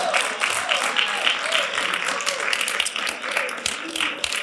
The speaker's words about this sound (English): Come on, give him a hand clap and thank him tonight.